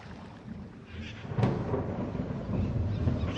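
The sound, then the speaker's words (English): A low, rolling rumble of thunder from a storm approaching over a jungle builds steadily, with a sharper crack around the midpoint and a continuous hiss of rain or wind beneath it, no voices present. “Looks like we could be in for rain.”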